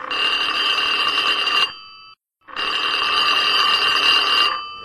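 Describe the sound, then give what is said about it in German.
A telephone rings twice before reaching the answering machine of Nobby und Ebi, each ring a loud, buzzy electronic trill lasting under two seconds, separated by a short silent gap. No voices are heard. “Hier ist der Anrufbeantworter von Nobby und Ebi.”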